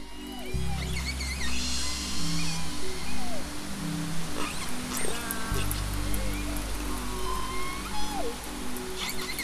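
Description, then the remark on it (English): Resident killer whale pod calls in their pod dialect, recorded underwater in the Salish Sea off British Columbia and Washington State: overlapping rising and falling whistles and squealing pulsed cries from several animals, steady throughout, over a constant low hydrophone hum. “Baby resident killer whales learn their pod dialects from their mothers and their close kin.”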